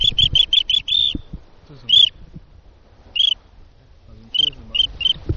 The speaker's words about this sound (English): My job here today, to sit on the beach, wait for birds to come past. Here comes some now.